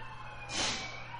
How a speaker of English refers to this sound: Well, that's annoying as all get out. Little siren going on outside the studio. Or several.